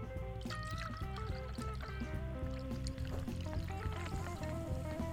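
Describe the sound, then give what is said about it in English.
A drink is poured into a glass from a height, filling it to the top, a steady, unbroken stream of splashing and gurgling that fills for several seconds, fairly loud, with no voices. “Am I just filling this up to the top from a height, so I get a bit of foam?”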